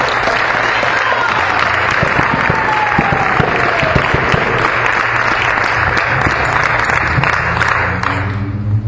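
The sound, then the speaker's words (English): An audience gives a big round of applause to welcome a speaker, a dense wash of clapping with whoops and cheers mixed in, a low hum underneath, tapering slightly near the end. “So, let's give a big round of applause for his very amazing.”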